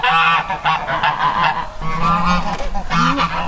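Loud goose honking in a continuous run of harsh, nasal calls, with repeated squawks overlapping for a few seconds and no talking.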